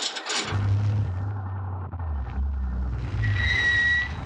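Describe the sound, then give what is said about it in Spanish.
Engines of cars rumble and drone steadily in unusual movement as two huge trucks approach in the early hours of the morning, with a low, shifting growl throughout and a thin high whistling tone near the end. “Se advierte un movimiento inusitado de autos.”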